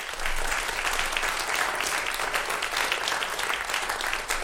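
A crowd claps steadily for the first podium guest, the chairman of the Altes Kino association, dense overlapping hand claps forming a loud, continuous wash of applause that holds at an even level for several seconds with no voices.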